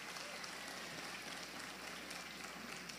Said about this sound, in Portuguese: Glória a Deus, diga eu recebo. Isso, aplauda Jesus, aplauda o Senhor.